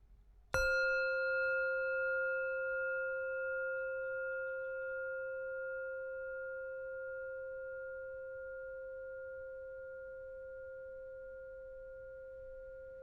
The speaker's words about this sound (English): In a moment, I will ring my bell to signal the beginning of our practice.